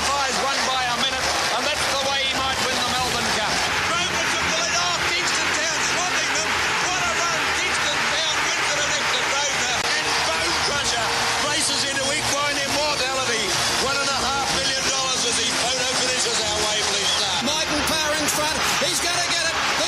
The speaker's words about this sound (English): But the great grey Gunsend in front, he's too good. What a champion. The crowd roars and Gunsend wins a length to Walshot.